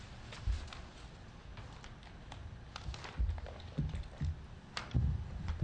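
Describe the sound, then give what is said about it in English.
Steady, quick typing on a computer keyboard by a meeting's scribe, an irregular stream of soft key clicks with a few louder taps, heard on its own with no voices. “Thank you for typing quickly this afternoon.”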